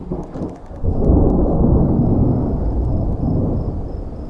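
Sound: thunder from nearby lightning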